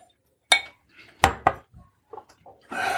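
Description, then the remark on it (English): Cask Strength Double Chocolate Malt whisky is poured into glasses: three sharp glassy clinks and knocks ring out at uneven intervals, with soft handling sounds between, then a steady rushing splash of liquid at the end. “Pour that shit up.”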